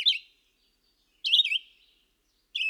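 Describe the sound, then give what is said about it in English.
A songbird with a burnt orange breast, a long-distance migrant that nests in open woodland or woodland edge in the St. Francis Mountains, United States, calls three times in short, bright bursts with quiet gaps between. Each call is a quick rising and falling chirp, clear, with no voices present. “This bird prefers open woodland or woodland edge. Its grass-lined nest hangs from the branches of shrubs.”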